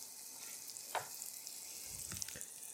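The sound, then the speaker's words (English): Flour-coated cutlets frying in a pan: a steady, soft, high-pitched sizzle with scattered crackles and a few brief louder pops. No one speaks. “I'm just going to shake off the excess, but there's still a nice thin coating, and then they're going to go right in the pan.”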